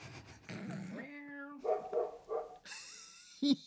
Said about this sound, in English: Dog has great timing.